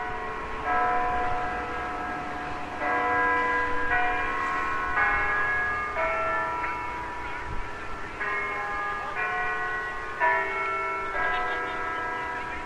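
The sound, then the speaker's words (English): The Peace Tower clock above the Centre Block in Ottawa rings out a slow chime melody at 12:45, each loud, resonant note overlapping the last in a steady sequence, with a faint hum of background noise and no talking. “Peace Tower has a clock.”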